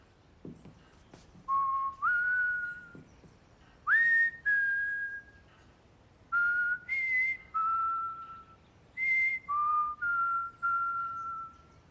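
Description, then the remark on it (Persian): A person whistles a light, breezy, carefree tune alone, a run of clear sustained notes in short phrases with slides between pitches, steady in loudness. “وقتی داشت از خونه می رفت بیرون اینطوری سوت می زد.”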